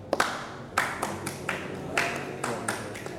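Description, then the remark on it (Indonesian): Rhythmic hand clapping of didong tepok, a didong performance, about ten sharp claps in a loosely steady pattern with a few quick doubles, moderately loud, with no voices over them. “Kalau dia di tengah namanya didong tepok. Nah. Oh. Didong tepok, didong pukul.”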